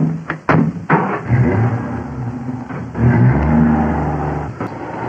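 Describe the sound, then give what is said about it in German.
The engine of a new Opel Kapitän car revs and accelerates, its low rumble rising and swelling steadily, with a few sharp clicks or thumps near the start and end. “Und boy, was das für ein Wagen wird. Ein Opel Kapitän. Ein neuer Wagen.”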